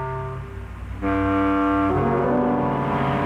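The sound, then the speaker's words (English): A car horn blares in one long, loud, sustained chord, shifting to a higher, harsher pitch twice as it continues, with a low engine rumble beneath and no talking, as funeral cars bring guests to the house on Haunted Hill. “It was my wife's idea to have our guests come in funeral cars.”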